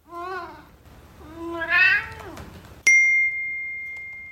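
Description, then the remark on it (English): A cat named Wilbur meows twice, the second call rising and longer, followed by a sharp electronic notification ding from a phone whose sound detection feature has recognized the cat; the ding rings out clearly and slowly fades. “And sure enough, my phone dings and says, a sound has been recognized that may be a cat.”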